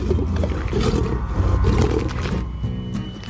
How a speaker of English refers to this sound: Hoth Pops come in three fabulous flavors. Beef, chicken, and mystery meat. Let's listen to a Wampa eating a Hoth Pop right now.